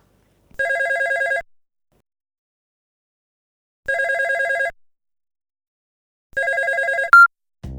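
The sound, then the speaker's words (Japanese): A telephone rings in three separate electronic trilling bursts, evenly spaced with silent gaps between them, ending with a brief click and a short noise as it is picked up. “あ、電話だ。”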